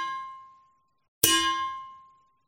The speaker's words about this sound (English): literally was the Angelus. Sorry, anyway. Gave me goosebumps.